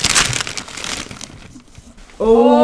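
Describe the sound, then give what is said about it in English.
Rustling, crinkling cardboard packaging noise for about a second, with sharp scrapes and tearing as a cardboard box is opened, then a short lull before a voice begins speaking. “Another box.”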